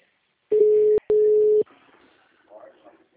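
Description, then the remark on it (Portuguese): A loud, steady telephone line tone from an automatic phone dialer placing a call sounds in two half-second bursts split by a short click, then faint muffled voice-like murmuring follows on the line. “Esse é discador que eu tô ligando.”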